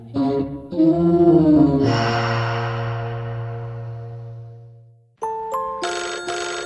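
A phone ringtone for an incoming call plays loud: a short melodic run of electronic notes, a long fading tone, then a brief gap before the tune starts again. No one speaks.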